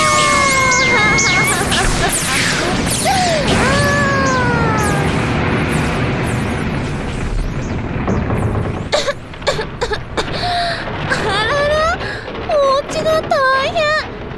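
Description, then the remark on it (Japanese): A loud, continuous roar of booming blasts with whistling tones, then a rapid series of sharp, punchy explosions in quick succession, forceful, like a barrage of shots hitting; a bullet barrage of bright lights exploding. “ドーンですって。ドーン、ドドドーンって。”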